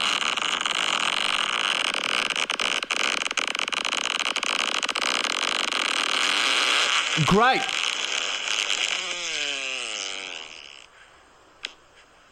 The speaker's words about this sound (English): Dude, the little pop at the end. That's a 9.5. That is a very good fart. That's the best.